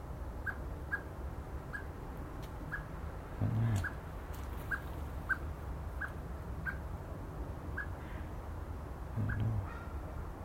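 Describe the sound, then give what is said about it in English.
A blackbird in a garden gives a steady series of short, sharp calls, repeated every half second or so over a low outdoor rumble, with a couple of dull thumps. “I wish I could speak Blackbird.”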